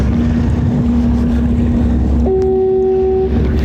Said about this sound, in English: I'm at the jaws now, right by that foghorn.